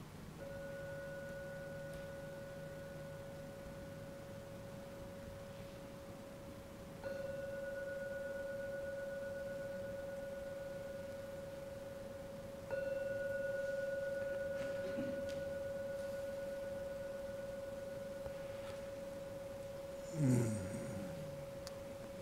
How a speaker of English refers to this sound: We're going to ring the gong 3 times. When the gong finishes sounding for that 3rd time, it's a time to come out of the meditation.